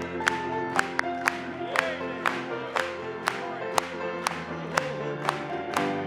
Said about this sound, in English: Clap it to him.